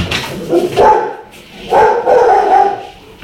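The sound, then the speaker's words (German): A dog barks in a few loud bursts with a pause between them, the later barks running together in a longer, excited volley, barking along with another dog that started barking. “Whisky bellt gerade mit einem anderen Hund, weil ein Hund angefangen hat zu bellen”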